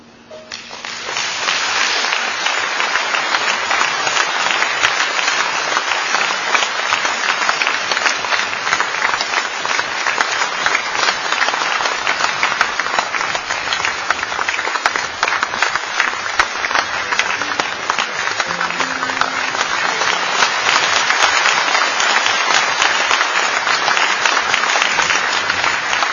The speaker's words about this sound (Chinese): 我想这经久不息的掌声应该就代表了所有人在听到乔真、丁金华两位老师之后合作的一种感受吧。